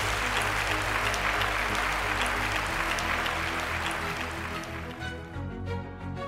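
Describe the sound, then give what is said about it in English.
A crowd applauds steadily at the end of an Intelligence Squared debate recorded live at the IFT First Annual Event and Food Expo, a dense wash of clapping that stays loud for about five seconds before thinning out, with a low musical tone sounding underneath. “And I want to thank all of you for attending and voting and applauding.”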